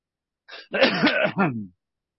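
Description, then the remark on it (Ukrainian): A loud bout of harsh coughing or throat clearing during a roll-call vote in a committee meeting, a short burst followed by two rougher rasping pushes, lasting about a second with no talking around it. “Будьте здорові.”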